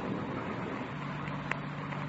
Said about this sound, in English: The car coming up the road toward us, sounds like. Yeah. Wait a minute. Coming over this way. Yeah, sounds that way, doesn't it?